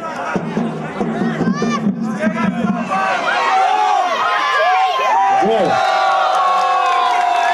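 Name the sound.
football fans cheering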